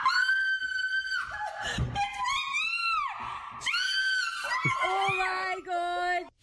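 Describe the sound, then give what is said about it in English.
A woman screams in loud, high-pitched, sustained shrieks, several in a row with wavering, sliding pitch and brief breaks between them, piercing throughout, in a played clip of a woman screaming while being attacked by bees. “Same exact scream. She's still getting attacked by bees.”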